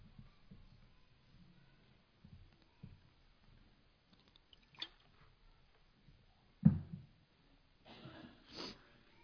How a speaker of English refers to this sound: Water splashed up into my nose.